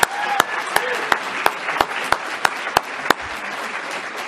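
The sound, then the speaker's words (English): Audience applause for the kids: a steady wash of many hands clapping with a few sharp, louder claps popping out at a quick irregular rhythm, plus faint murmuring voices underneath. “One more round of applause for those kids.”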